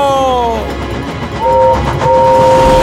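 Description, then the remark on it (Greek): A loud express train, Gordon, rushes past, its whistle sliding down in pitch, then sounding again in two long steady blasts over a heavy rumbling roar. “Περνάει η ταχεία!”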